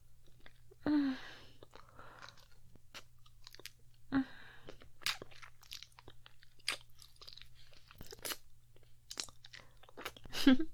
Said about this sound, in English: My tongue licking the underside of your cock. My lips sucking and slurping. Every inch of you.